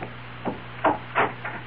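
Four solid knocks on a door by a late-night visitor, evenly paced, with the middle two landing hardest, over a low steady hum with no voices.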